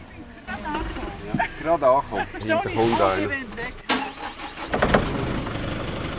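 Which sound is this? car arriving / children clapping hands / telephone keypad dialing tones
car arriving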